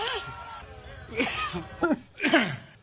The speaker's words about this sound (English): First, you want to cough? A little bit.